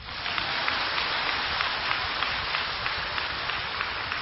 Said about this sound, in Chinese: 鼓掌